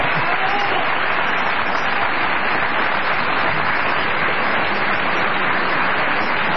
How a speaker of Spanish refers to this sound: Pueden aplaudir, está bien. Este es un buen momento.